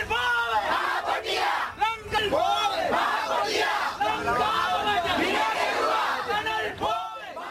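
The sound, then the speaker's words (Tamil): A crowd of protesters shouts and yells continuously at a demonstration in Anuradhapura, surrounding a stopped express train to protest against a group travelling on it, many overlapping voices rising and falling in loud, rough bursts with no pause throughout. “இன்று ரயில் மூலமாக யாழ்ப்பாணத்திற்கு சென்ற போது அனுராதபுரத்தில் அவருக்கு எதிராக நடத்தப்பட்ட ஒரு ஆர்ப்பாட்டத்தை அடுத்து அவரும் அவருடைய குழுவினரும் கொழும்புக்கு பாதுகாப்பாக திருப்பி அனுப்பி வைக்கப்பட்டிருப்பதாக போலீசார் தெரிவித்திருக்கின்றார்கள்.”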